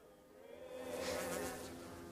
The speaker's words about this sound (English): He looks into a kitchen, chopped vegetables on the counter, and then looks through the slatted interior doors to his right into a living room, flies buzzing around.